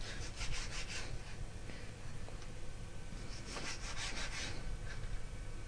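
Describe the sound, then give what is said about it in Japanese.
A knife slices raw chicken, skin included, into small bite-sized pieces on a cutting board in short, repeated scraping strokes, bunched into two bursts over a low steady background hum, with no talking. “続けて鶏肉を切ります。鶏肉はだいたい一口大、ちっちゃめの一口大に切ります。”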